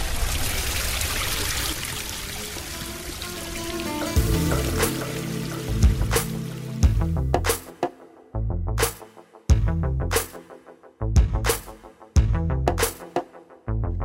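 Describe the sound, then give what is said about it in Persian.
Water runs in a steady trickle, then breaks into a rhythmic series of splashy drips and spurts about once a second, with no voices. “بس بریم با هم صدای آب رو بشنویم.”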